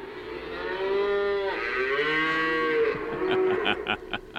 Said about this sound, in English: Moo.